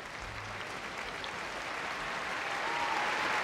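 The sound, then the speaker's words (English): Sustained applause from an audience after the last reading of the evening as the reader walks off the stage, a dense wash of clapping that holds steady and swells slightly louder toward the end, with no voices. “A long applause as he now walks off the stage, glass of whiskey in hand.”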